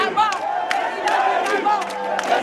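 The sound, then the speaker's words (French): A dense crowd of supporters of Gabonese opposition leader Jean Ping shouts and cheers loudly and without pause as he arrives at his rally, many voices overlapping into a roar with occasional sharper yells rising above it. “Puis l'opposant est arrivé, faisant lever de la victoire sous les cris de ses partisans.”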